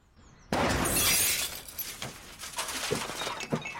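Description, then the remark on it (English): A sudden loud crash as a car on a driving test, just leaving the test centre, slams into a milk float, followed by a burst of shattering glass and a few seconds of scattered tinkling and clattering as the pieces settle. “She's hit a milk float.”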